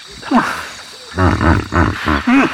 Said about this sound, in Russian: Да, такое жизнерадостное похрюкивание, хоть это и не пение птиц, но, пожалуй, способно скрасить хмурое утро городского человека, которому так не хватает этих звуков.